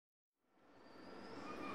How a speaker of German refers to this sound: Meine Damen und Herren, auf Gleis 19 erhält Einfahrt der Regionalexpress aus Heidelberg. Ankunft 14.22 Uhr. Weiterfahrt nach Wiesbaden um 14.32 Uhr.